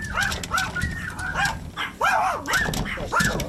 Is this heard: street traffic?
no